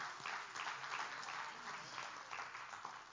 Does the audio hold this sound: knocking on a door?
no